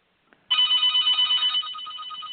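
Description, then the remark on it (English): A telephone bell rings in a rapid, continuous metallic trill, loud and bright, starting abruptly after a faint click and holding steady before easing slightly in volume. “And there's the bell.”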